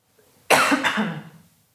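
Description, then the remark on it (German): A single loud cough bursts out sharply, with a second rough push right after, then trails off into a breathy rasp. No one speaks. “Jetzt muss ich mal ganz kurz husten, einen Moment.”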